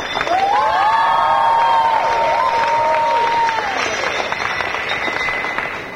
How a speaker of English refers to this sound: wonderful audience, the best we've ever had. A big round of applause for the audience.